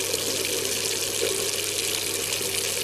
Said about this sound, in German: Meine Intention ist, es ist ein Wasserhahn, da kommt Wasser raus.